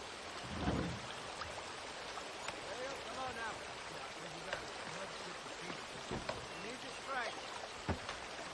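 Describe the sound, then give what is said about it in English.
A steady wash of flowing water from a river bending through a forest fills the scene, with scattered splashes and drips and faint chirping calls woven through the constant rush. “Contrary-wise, men might could come to a certain special feeling, partial, say, to a piece of ground, a river, bending through the forest, like so.”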